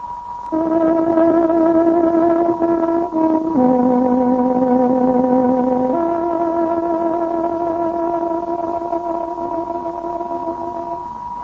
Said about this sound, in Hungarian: Kedves hallgatóink, pontos időjelzést adunk. Tárogatónk 20 órát jelez.